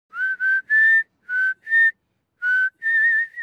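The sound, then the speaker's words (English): A farm supervisor whistles a short, lilting tune while working at Alfred Farms, north of Pasco: six or seven clear, bright notes in a loose rhythm, with brief gaps between phrases and the last note held a little longer. No one speaks. “He loves to whistle while he works.”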